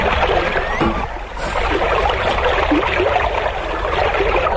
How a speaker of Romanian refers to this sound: Așa, acum copii, tragem barca la țărm. Așa, așa.